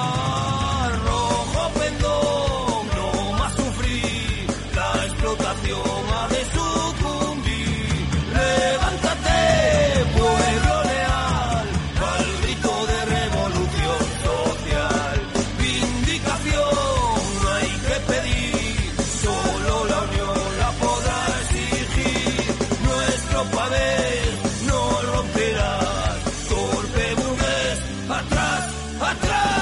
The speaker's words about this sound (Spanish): Sintonía de Radio Clara, lliure directe